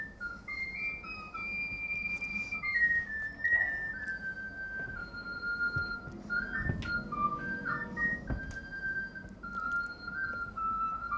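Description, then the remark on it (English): A flageolet plays a lively melody of high, pure notes that step up and down in quick succession, with a few brief pauses, over a faint low background hum. “And prior to that, people had also recognized that if you played them a tune on a flageolet like this, they could learn it as well.”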